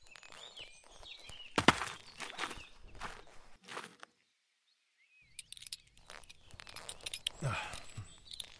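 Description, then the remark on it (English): A horse with a rider on its back shifts and steps, its hooves thudding and scuffing in an irregular rhythm, falling quiet for a moment before the restless stepping resumes. “Well, I thought about loosening them, but decided I'd rather stay on the horse.”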